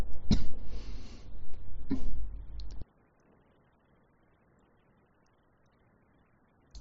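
coughing and throat clearing

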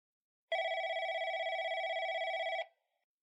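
telephone ringing

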